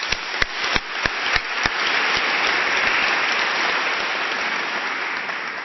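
Applause from an audience, beginning with a few sharp scattered claps that quickly swell into a steady, dense wash of clapping that holds for several seconds.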